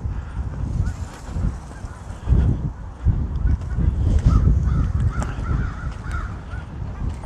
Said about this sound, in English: Some geese going over.